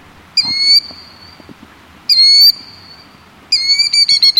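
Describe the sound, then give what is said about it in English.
A killdeer calls loudly: three shrill, piercing cries spaced a second or so apart, the last one breaking into a rapid stuttering trill. “The parent bird calls loudly while appearing to limp along with one wing outstretched and tail fanned.”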